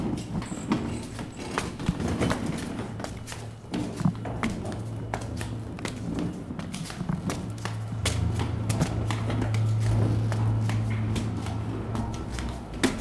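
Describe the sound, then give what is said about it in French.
Footsteps climbing stairs, a long run of steady knocking steps in an even rhythm, with a low background hum and no talking. “Et du coup, on a monté les escaliers.”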